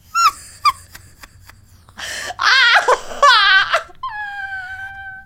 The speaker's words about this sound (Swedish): Jag gråter nu.